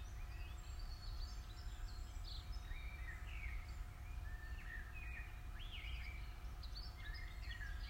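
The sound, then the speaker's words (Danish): Several birds sing and chirp in overlapping phrases throughout in a forest on a sunny day, with quick rising and falling whistles, over a steady low outdoor rumble. “Og fuglene registrerer du, da de danner deres helt eget orkester.”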